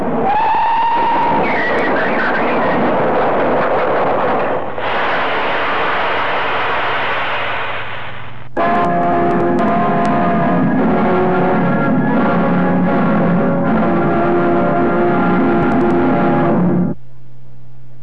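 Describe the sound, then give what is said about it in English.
A loud train grinds along the rails, then its brakes squeal in a sustained, piercing metallic screech that holds for several seconds before cutting off abruptly, as the driver brakes for an elderly man walking onto the line. “The silly old coot's walking onto the line! Here, put on them brakes!”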